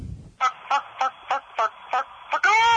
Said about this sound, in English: That's that chicken right there. Yeah, it is the chicken.